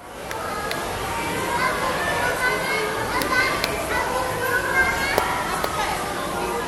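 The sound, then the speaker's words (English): A few sharp hand claps, falling in loose pairs, cut faintly through a dense, steady din of children's shouts and crowd chatter in a busy Science Center exhibit gallery, the noise nearly burying them. “And I recorded the sound of me clapping.”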